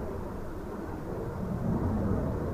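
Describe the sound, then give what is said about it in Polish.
A deep, steady roar of an F-16 fighter jet from the Krzesiny military base flying overhead over Luboń, a broad low rumble that swells slightly louder toward the end, with no voices. “Samoloty F-16 z bazy wojskowej w Krzesinach nad Luboniem latają często, a mieszkańcom przede wszystkim przeszkadza hałas.”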